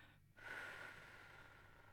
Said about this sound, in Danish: Og man kan med fordel puste luften ud langsomt gennem munden, så man lige spidser munden en lille bitte smule, så man laver en udånding sådan her.